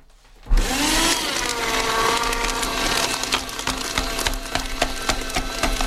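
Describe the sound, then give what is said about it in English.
A paper shredder whirs to life after a brief pause, its steady motor drone overlaid with dense crackling and tearing as paper is chewed through continuously until the end. “the Jacksonville Jaguars are going in the paper shredder.”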